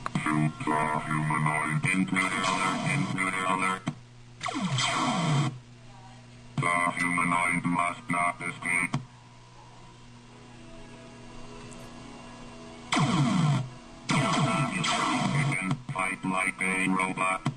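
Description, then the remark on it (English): Buzzy, robotic synthesized speech from the arcade game Berserk comes in several short, garbled bursts with pauses between them, all over a steady low electronic hum. “These are ways to figure out how to make electronics, you know, vibrate in ways that would sound like a voice.”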